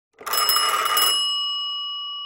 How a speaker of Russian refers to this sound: В столовой стояла такая тишина, что все вздрогнули. Вайолет, Клаус, Солнышко и даже тетя Жозефина, когда вдруг зазвонил телефон.